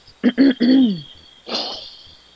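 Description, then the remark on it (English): Someone with a sore throat clears their throat with three quick, throaty voiced grunts that slide downward, followed by a softer, raspy breath after a short pause, with no talking. “And if y'all hear me clear my throat, to have a sore throat.”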